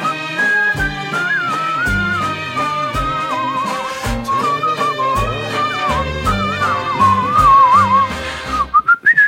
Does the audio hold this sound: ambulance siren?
no